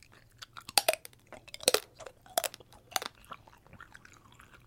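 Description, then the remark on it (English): Crunchy bites and wet chewing of a raspberry wax candy that has been frozen for two weeks, with several sharp loud crunches spaced about a second apart and softer mouth sounds in between, no talking. “So once you're done chewing on the wax like gum, you're supposed to spit it out, okay?”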